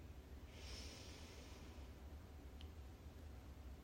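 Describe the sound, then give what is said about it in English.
A slow, deep inhale with a soft airy hiss, followed by a quieter exhale, taken during a guided meditation breathing exercise, over a low steady background rumble. No one speaks. “Take a few deep breaths in.”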